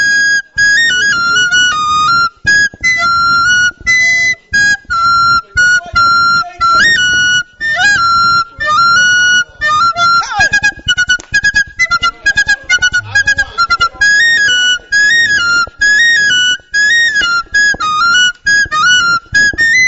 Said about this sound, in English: I have a whistle, they call it flute. Yes, recorder. Go ahead. So let me do that.